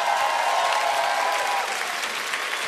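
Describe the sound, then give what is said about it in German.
An audience claps steadily for a volunteer called to the front to dance, a dense, even wash of applause that stays loud throughout with no voices standing out, tapering only slightly toward the end. “Applaus, Applaus.”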